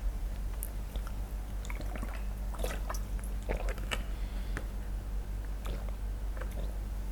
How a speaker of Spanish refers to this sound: A ver, déjenme tomarme un sip de agua y un sip de café.